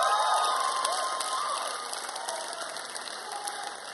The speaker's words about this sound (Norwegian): Så vi klapper.